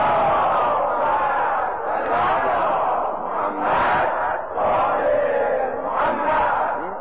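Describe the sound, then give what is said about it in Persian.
A large crowd loudly chants a salawat blessing on the Prophet and his family in unison, a dense wall of voices rising and falling through repeated phrases without pause. “یعنی ارزشمندتر از این ذکر اگه کسی گفت جایی هست بگو نیم، یه صلوات بلند خط کنه.”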